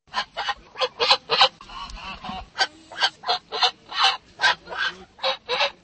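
A flock of geese honks loudly and repeatedly, a rapid series of harsh, nasal calls overlapping, with faint crowd murmur in the background, at a weekend goose festival with an exhibition of live geese in Boskovice, Blansko region.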